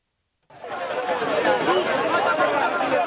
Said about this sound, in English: You're listening to a crowd of Haitians waiting outside Haiti's migration agency, hoping to apply for a humanitarian program that allows up to 30,000 immigrants from Cuba, Haiti, Nicaragua, and Venezuela to enter the United States.